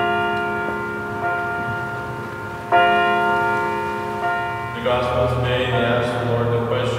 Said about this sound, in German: Ähnlich regelmäßig wie der Bahnübergang und der Zug läuten am Wochenende die Kirchenglocken in Nogales.